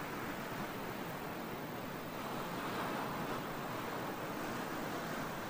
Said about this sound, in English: After some time, you notice that the waves are gently rolling in and subsiding in perfect rhythm with your breathing. As you breathe in, the wave rolls in to shore. As you exhale, the water retreats to the bosom of the sea.